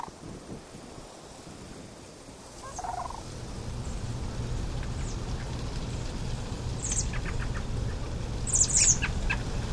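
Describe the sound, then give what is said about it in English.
Rattling, bugling calls of sandhill cranes ring out in short bursts, growing busier toward the end, over a steady low rush of wind in an open outdoor setting. “The sandhill cranes especially, it's fun to hear them.”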